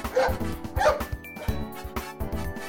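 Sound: big dog barking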